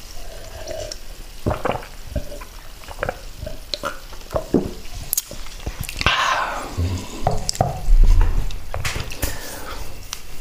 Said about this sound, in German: Ich schüttel die Flasche ein bisschen und dann gieße ich Ihnen noch was ein. Damit die Kohlensäure raus ist, dann können Sie schneller trinken. Hier, bitteschön.